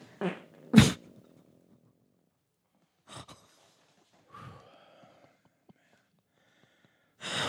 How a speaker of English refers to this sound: Well, I can tell you exactly what causes that kind of fart. That was horrendous.